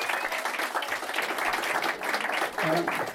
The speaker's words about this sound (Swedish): En varm applåd för Andrea Lennartsson! Andrea Lennartsson!